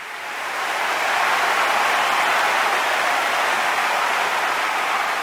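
Loud, sustained applause from spectators as seahorse Number 12 wins a swimming race with a best time, swelling in over the first second into a dense, even roar of clapping that holds steady for about five seconds, with no voices standing out.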